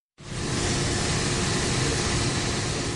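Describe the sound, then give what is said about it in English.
A steady, unbroken hiss of air conditioners fills an empty, usually busy courtroom in Yaoundé, Cameroon, a broad even whoosh that holds at constant loudness throughout with no voices or other sounds. “Only the hissing noise of air conditioners was heard at the usually busy full courtroom in Cameroon's capital Yaoundé on Monday.”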